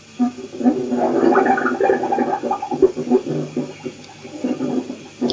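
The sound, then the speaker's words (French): Thick, wet gurgling as bubbles of heated gas burst up through liquid to the surface in an uneven, continuous churn, low and burbling, fairly loud throughout with brief pauses and surges, no voices. “Aboiement des bulles libérées. les gaz échauffés renvoyés en surface.”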